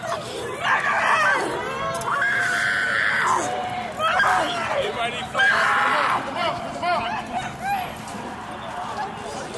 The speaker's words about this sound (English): I hear screams coming from multiple directions.